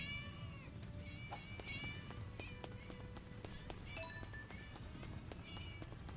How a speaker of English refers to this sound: Why are all these cats here